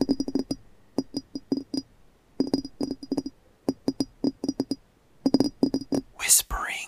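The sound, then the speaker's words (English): Crisp ASMR fingertip tapping in quick rhythmic bursts of several taps, separated by short pauses, with a faint glassy ring; a brief rustling swish ends it. “So from tapping.”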